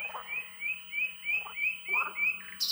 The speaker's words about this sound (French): Nuit provençale, le chant interminable des rossignols tout au long des nuits de mai. Le rossignol.